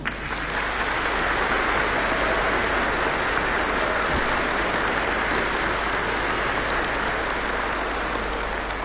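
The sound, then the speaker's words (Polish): A crowd applauds steadily for about nine seconds, a dense, even wash of many hands clapping at constant loudness with no voices standing out. “ty jesteś też naszą przyjaciółką, ponieważ najpierw jesteś przyjaciółką Pana Jezusa, Matki Najświętszej, więc i tobie klaskamy, ponieważ w tobie widzimy naszą przyjaciółkę od różańca.”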